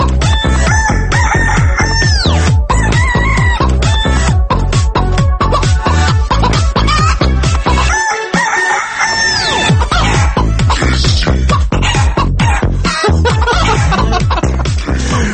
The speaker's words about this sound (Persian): دارن تخم میذارن، خسته نباشین خانم مرغه.